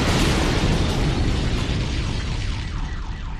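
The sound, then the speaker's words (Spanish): A bomb explosion, felt 48 kilometres around, roars as a dense, heavy rumble that fills the whole clip and slowly fades, while wavering car alarm tones begin to rise through the noise near the end. “Pocos minutos después, estallaba la bomba.”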